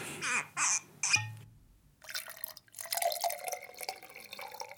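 A few short knocks and clinks come first, then after a brief pause wine is poured into a glass, a steady gurgling stream lasting a few seconds.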